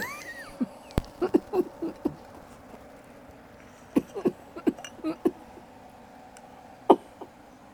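Short, dry coughs from a woman come in small clusters: a quick run early on, another burst midway, then one final cough. The sounds are fairly soft, with no talking.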